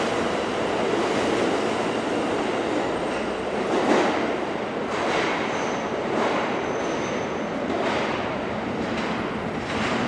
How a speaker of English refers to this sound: Okay, we'll have some atmospherics here since we've just descended into the depths of the New York subway system on an August day.